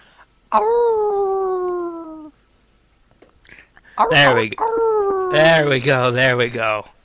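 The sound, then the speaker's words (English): A person imitates a wolf howl: first a steady, slightly falling howl of about two seconds, then after a pause a louder, longer, wavering howl. “Give us a wolf howl.”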